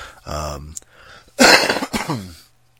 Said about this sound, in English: sorry, I was fucking sick the other week. I was coughing. Cough up some phlegm.